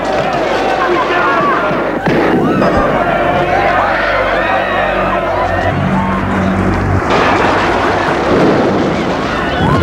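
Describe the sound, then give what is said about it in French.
A chaotic, loud crowd of many people shouting and screaming at once during a street riot, continuous, with rumbling engine-like noise and scattered bangs underneath. “Qui crie, hurle. Ils sont apeurés, ont quitté leur scooter et essayent de sortir de ce genre de bataille qui est devenu la rue.”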